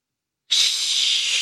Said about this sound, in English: That's a flush, baby. Yeah. Oh, my God. He's like, you don't even have to hold it down or, like, do the thing where you jiggle the coat hanger to try and get the suction thing up. He's like, that's all natural indoor plumbing, baby.